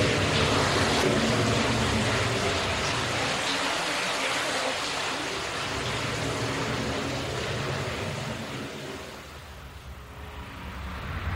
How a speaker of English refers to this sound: So the cascade of water falls into a bath of water.